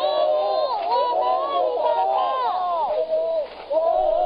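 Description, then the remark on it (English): A large crowd gathered outside a hospital in Taiwan during the SARS outbreak, where workers and patients were quarantined, as a show of public support. Many voices shout and call over one another in a loud, continuous wash of babble that barely dips for the whole stretch. “Crowds gathered out front.”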